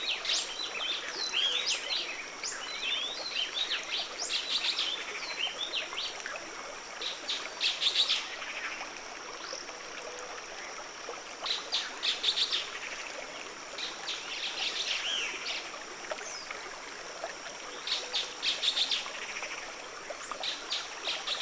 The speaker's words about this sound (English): And here, the voices of the birds are a racket, an intense cacophony of sounds that join the quiet conversation between water and stone.